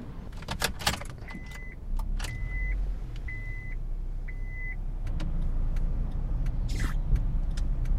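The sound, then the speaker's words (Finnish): Heard from inside a car: keys jingle, four evenly spaced chime beeps sound, then a steady low engine and road rumble builds as the car moves along a long street, Mekelin katu. “Otetaanpa ihan auto avuksi tässä liikkumisessa.”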